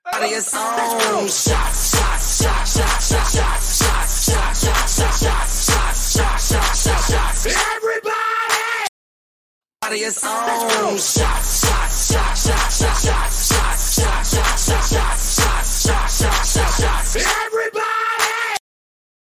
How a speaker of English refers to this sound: I don't like that scream. I don't like that scream. I don't really like that scream.